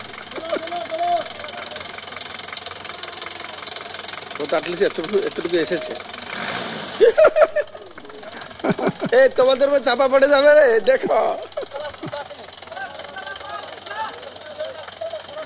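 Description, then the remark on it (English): A car engine drones steadily throughout, with louder rattling bursts midway as it strains, while people talk over the noise. “So then when you take the car, see the situation of the car, how it happens.”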